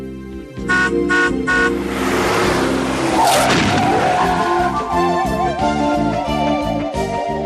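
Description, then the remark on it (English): A vehicle honks a few times, then a sudden burst like a tire blowing out gives way to a long, wavering tire skid. It is loud, with a steady rumble underneath. “Did you think that a passing circus truck would blow a tire and their elephant would escape?”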